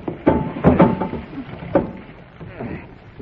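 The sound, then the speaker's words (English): A heavy door thuds and rattles in a few forceful bursts as someone strains to open it against strong wind in a storm, with a steady rush of wind roaring underneath throughout. “give me a hand with this door. The wind's so strong, I can't get it open.”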